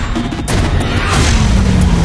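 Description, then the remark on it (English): Loud, continuous chaos of smashing and explosions in a film chase scene where Duke and Ripcord, wearing accelerator suits, pursue others, with deep booming rumbles and a sharp crash near the start, dense with no clear pauses. “All the while, things are being smashed and exploding.”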